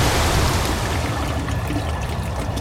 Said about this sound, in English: He spilled the contents of the bottle into the chemical toilet and flushed it.